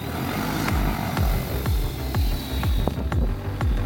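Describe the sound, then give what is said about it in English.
AgriSpray agricultural spray drone propellers spin up as the drone takes off from the ground, with a loud, steady whirring roar and a low rhythmic pulsing throb repeating about twice a second. No one speaks. “As the propellers start moving, press up on the left stick gently to take off the drone from the ground.”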